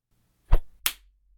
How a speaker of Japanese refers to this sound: 聞き分けのない犬だな。これは鞭打ちが必要なようだ。